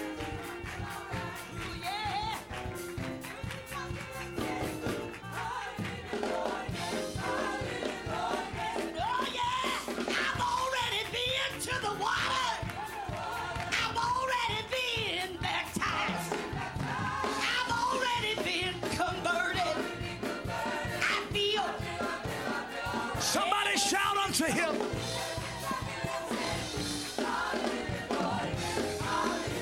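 audience shouting and yelling

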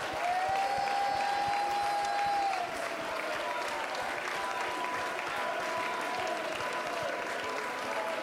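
audience clapping hands

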